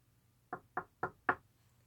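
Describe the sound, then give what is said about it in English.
Four firm knocks on a door, evenly spaced in a quick steady rhythm, clear against a quiet background with no voices. “I'm gonna walk up and knock.”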